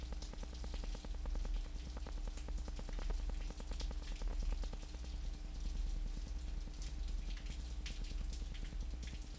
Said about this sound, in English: So, ladies and gentlemen, for the next 10 seconds, you will hear the rain in Geneva. Here we go.